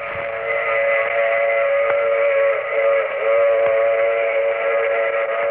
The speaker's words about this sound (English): The sound of a train whistle was meant to invite you into the Mysterious Traveler's boxcar, where he would tell you a story of the week.